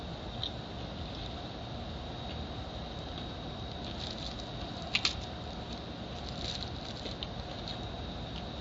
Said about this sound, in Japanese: 咀嚼音をお楽しみください。